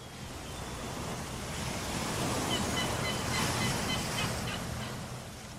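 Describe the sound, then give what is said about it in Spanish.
Steady wash of sea waves rolls on throughout, swelling slightly in the middle, while a few faint seagull cries drift over the surf. No one speaks. “Y vamos abriendo los ojos, teniendo en cuenta el mar y las gaviotas.”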